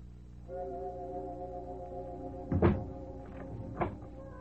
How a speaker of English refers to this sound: Closing door finishes the story.